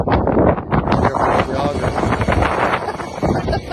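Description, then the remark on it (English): Strong wind, heard in a played video, roars and buffets the microphone in a steady, loud rush for the whole stretch, with deep rumbling gusts swelling and easing but never stopping. “Windy.”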